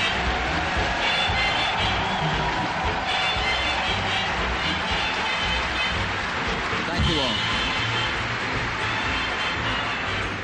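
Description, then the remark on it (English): A large crowd gathered at the train station in Cincinnati applauds steadily as the president approaches the podium, a dense, continuous wash of clapping mixed with cheering voices, loud, with no pauses. “Here comes the president approaching the podium at the train station in Cincinnati to the applause of the crowd that's gathered there.”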